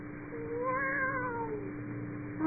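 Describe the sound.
A single drawn-out meow, clearly done by a human voice imitating a cat, rising and then sliding down over about a second and a half, fairly loud, with no talking.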